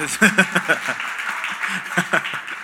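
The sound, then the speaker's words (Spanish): A crowd claps steadily for a few seconds, applauding the person next to them, a dense rattle of many hands, with voices calling out and chattering over the applause throughout. “Dele un aplauso al que está al lado, que tiene cara así como seria, ¿no?”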